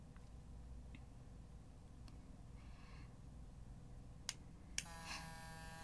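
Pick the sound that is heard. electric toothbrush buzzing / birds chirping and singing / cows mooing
electric toothbrush buzzing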